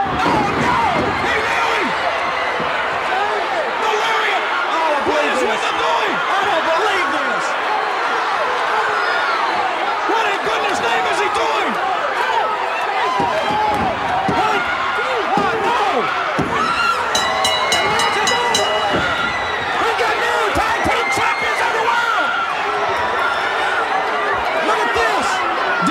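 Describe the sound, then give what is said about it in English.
A large crowd gasps and roars, a dense, loud wash of many voices that carries on steadily, with a few sharp thuds and slams cutting through the noise. “Now you should have heard the gasp go out of that crowd right here”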